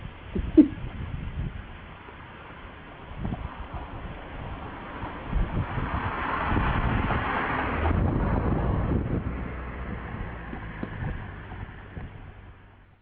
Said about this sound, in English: Sounds windy.